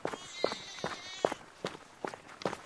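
Quick running footsteps of someone climbing uphill toward a village at full speed, about seven evenly spaced thuds at a brisk, steady pace, fairly soft and with no voices, over a faint high background hiss.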